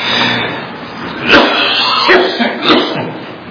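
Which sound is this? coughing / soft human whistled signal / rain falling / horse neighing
coughing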